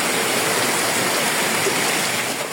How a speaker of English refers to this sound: Rain poured down in Santiago de Cuba from Melissa.